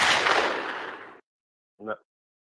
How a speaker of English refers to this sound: Yo, let me get a gunshot.